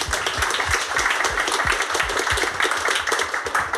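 A crowd applauds steadily, dense overlapping hand claps forming a loud, continuous wash of sound with no voices heard, sustained throughout.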